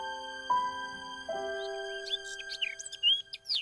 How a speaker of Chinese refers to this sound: 那是什么呀？ 那是麻雀。 那是什么呀？ 那是麻雀。 那个是。 那是麻雀，麻雀，刚才不是告诉你了吗？